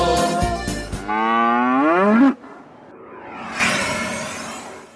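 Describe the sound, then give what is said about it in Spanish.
A cow lets out one loud, drawn-out moo that bends in pitch and cuts off abruptly, followed after a short pause by a breathy, hissing whoosh. “Tengo una vaca lechera, no es una vaca cualquiera.”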